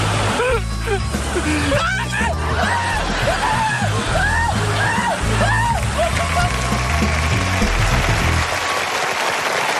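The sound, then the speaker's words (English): An adult voice wails like a crying baby at a train, a run of short rising-and-falling cries repeated in quick succession, fairly loud over a constant noisy background that sounds like a crowd or traffic. “Someone's gonna scream like a little baby. And it's not the little baby.”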